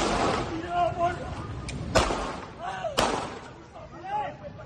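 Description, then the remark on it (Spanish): Two sharp gunshots, fired at night by Guardia Civil officers at a man on the seafront promenade in the Pescadores district of Rincón de la Victoria, ring out about a second apart, loud and echoing, amid shouting voices and commotion, recorded on witnesses' mobile phones. “Es el sonido de las imágenes que grabaron con el teléfono móvil algunos testigos que estaban en la zona.”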